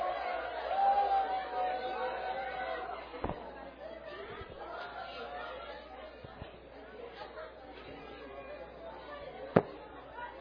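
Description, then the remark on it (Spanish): A crowd gives steady applause mixed with excited chatter and babble, loudest early on, then easing, with a few sharp knocks and a single bang near the end. “Otro fuerte aplauso.”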